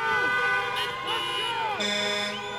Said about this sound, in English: Joe Biden spent much of a recent drive-in rally in Durham, North Carolina, speaking over the steady honk of car horns.